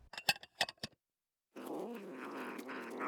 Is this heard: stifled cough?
no